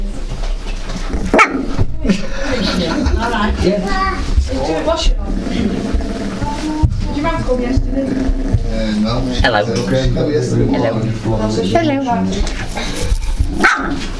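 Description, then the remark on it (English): A dog barks repeatedly and fairly loudly at an iRiver recording device, in short bursts mixed with yips, while people talk over and around the barking. “It's an iRiver, and you're barking at it.”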